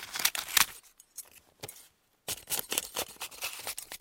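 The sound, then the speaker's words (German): Crisp snipping of scissors cutting a small notice out of a newspaper in quick bursts, with a short pause midway before the rapid cutting resumes. “Ich holte mir sofort eine Schere, schnitt die Notiz aus und legte sie behutsam in das Kästchen für Merkwürdigkeiten.”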